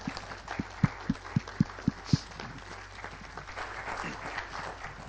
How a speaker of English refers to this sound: And it's okay to clap. You can clap for them.